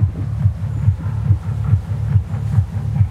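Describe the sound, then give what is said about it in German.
A deep, throbbing rumble pulses steadily about twice per second, low and heavy, over a soft, constant background wash of splashing water and birds. No one speaks. “Einmal dieses also Gewummer und wir hören trotzdem aber auch hier das Wassergeplätscher und Vögel.”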